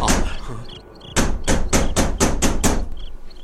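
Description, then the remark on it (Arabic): A rapid series of about eight loud, sharp knocks by the police on a house door, evenly spaced and insistent, following a second of muffled low background sound, in cold weather. “سأفتح الباب بنفسي يا حاج.”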